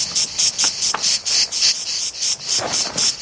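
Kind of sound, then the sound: insect, cicada singing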